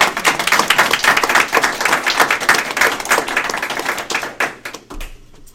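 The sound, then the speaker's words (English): A crowd in a room breaks into a round of applause honoring the director of a Nebraska state agency for over 20 years of service, dense overlapping claps holding steady and loud for several seconds before thinning out and fading to a few last scattered claps. “And I'm going to ask those in the room to join me in a round of applause.”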